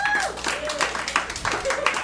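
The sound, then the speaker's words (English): An audience at a stand-up comedy set claps steadily for about two seconds, a dense patter of many hands mixed with scattered shouts and a couple of brief whistles, answering the comedian's call to clap if they hate Facebook. “All right, now clap your hands if you hate Facebook.”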